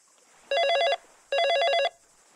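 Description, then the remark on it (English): A telephone rings twice in a clear double burst, each trill about half a second long with a brief pause between, over a faint steady background hiss and no talking. “The phone rings.”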